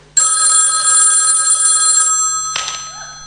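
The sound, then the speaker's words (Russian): A telephone rings in an apartment with a loud, continuous electronic bell tone for about two seconds, then a short clatter follows, like the handset being picked up. “В какой-то квартире звонит телефон.”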